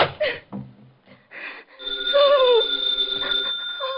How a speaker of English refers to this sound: The phone kept ringing. And ringing.